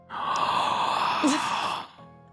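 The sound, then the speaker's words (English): A person imitates a loud, drawn-out yawn: a breathy, sustained exhale lasting nearly two seconds with a brief voiced wobble in the middle. “I yawn verbally. I'm like, oh. No. This is what it sounded like.”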